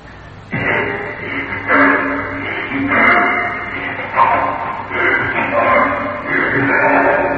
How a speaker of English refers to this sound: I immediately returned to the attic door. Breathing through that keyhole from the room beyond.